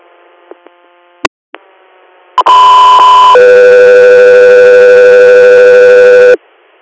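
Over a faint radio hiss and a few clicks, a loud steady electronic tone sounds, then abruptly drops to a second lower tone held for several seconds: a two-tone radio dispatch alert for the Alaska 3 Air medical crew, ahead of an inter-hospital response call from St. James Hospital, Hornell, New York.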